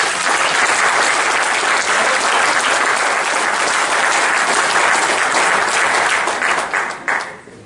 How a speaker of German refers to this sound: Applaus.